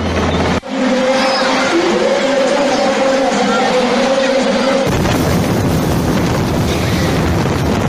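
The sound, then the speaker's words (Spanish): A Caimán helicopter of the Belma 3 Maneuver Helicopter Battalion from Recajo, carrying their majesties, struggles to land in strong wind: a loud, steady engine drone with a low humming tone battered by heavy wind rumble; partway through, the hum gives way to rough, roaring gusts. “Le ha costado un poco aterrizar al helicóptero por el viento, ¿verdad?”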